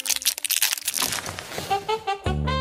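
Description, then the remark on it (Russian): A candy wrapper crinkles in a quick burst of crisp, crackly rustles, then fades as brief tonal sounds and a low buzzing hum take over. “Что это здесь так аппетитно шуршало?”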